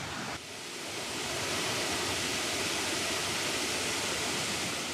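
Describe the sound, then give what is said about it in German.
Steady rushing water from a small waterfall and river rapids on the Schwarzach river, lined with small moss-covered rocks and stones, a dense continuous roar that fills the whole clip at a constant level, with no voices. “Ich glaube auch, dass man hier echt gut aufpassen muss, weil es ist jetzt kein Riesenwasserfall. Aber ich kann mir trotzdem vorstellen, dass durch die Stromschnellen, die da auch entstehen, das eher gefährlich sein kann, hier zu schwimmen.”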